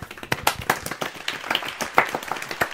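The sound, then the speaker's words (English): A modest, polite round of applause as Edison steps out to reveal his next big thing: a smattering of hands clapping in a loose, irregular patter at moderate volume, steady for a few seconds with no voices over it. “steps out, and led by Hamid, I believe it was, there's a polite round of applause.”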